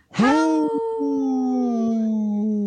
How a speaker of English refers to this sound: Hey, such a sad howl.